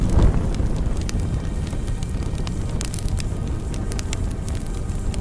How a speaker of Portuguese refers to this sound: E aqueles homens fortes que carregavam Sadraque, Mesaque e Abidnego foram mortos só em se aproximar do forno. E os 3 jovens foram lançados na fornalha de fogo ardente.